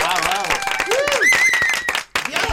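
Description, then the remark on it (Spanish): An audience gives a burst of dense, steady clapping after a song performance, with whoops and rising cheers mixed in. It briefly drops out near the end, then resumes. “¡Aplausos y todo!”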